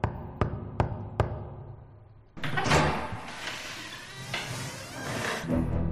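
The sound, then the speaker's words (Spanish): Four sharp, evenly spaced knocks on a front door as police inspector Joseph Cosentag knocks at 8213 West Summerdale Avenue, followed by a loud, sustained rattling and scraping as the door is opened. “Cuando el inspector Joseph Cosentag llamó a la puerta del 8213 de West Summerdale Avenue, abrió aquel hombre obeso, de aspecto amable, que no puso impedimentos a que los agentes pasaran.”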